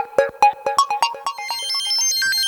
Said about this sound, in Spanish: Alarma de las 5:30 y antes de que suene el snooze, vamos a los principales títulos del día.